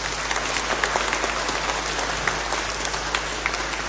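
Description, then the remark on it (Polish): Steady applause from a crowd at a sanctuary in Rychwałd, welcoming a group from St. Martin's parish in Radziechowy: a dense, even patter of many hands clapping at once, sustained at a fairly loud level with no voices over it. “A zatem witamy i pozdrawiamy naszych przyjaciół z parafii świętego Marcina w Radziechowach. Brawa dla nich!”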